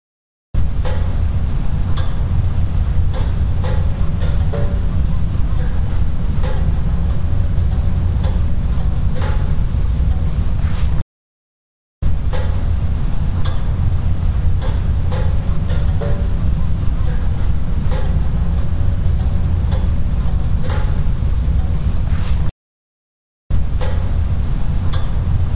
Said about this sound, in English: There's a lot of noise in that clip. You can hear the Jeep pinging in the background. That's we've been driving around for a while. It's at the metal cooling. So that's the pinging sound you hear. It's the metal cooling or whatever that sound is.